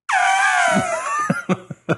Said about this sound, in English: Input elephant noise.